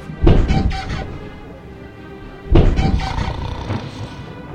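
Two heavy wooden door thuds in a video game, about two seconds apart, each a loud low thump followed by a short rattling decay, as the player passes through doors by pressing the space bar, in a quiet, slightly echoey space.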